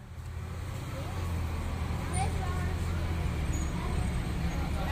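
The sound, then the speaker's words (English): A bus rumbles past at a roadside stop, its low engine drone steady over general traffic noise, with faint indistinct voices in the background. “Next bus. No, that one right over there.”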